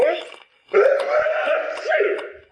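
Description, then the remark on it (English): An exaggerated, drawn-out sneeze voiced by a person: a short wheezy intake, a pause, then a long, wobbly, throaty blast that trails off, loud, with no other talking. “Bless you.”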